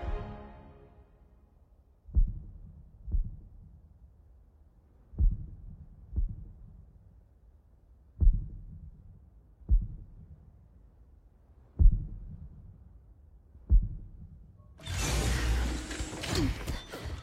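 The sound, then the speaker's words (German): A faint, muffled heartbeat, a man's weak pulse, thuds slowly and unevenly in near silence, some beats coming in pairs, before a sudden burst of rushing, rustling noise takes over at the end. “er hat noch Puls, aber sehr schwach.”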